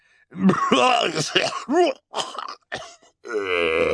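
A man coughs and clears his throat into a handkerchief, in several muffled, voiced bursts with short pauses, ending in a longer strained, groaning cough. Moderately loud, with no other sounds.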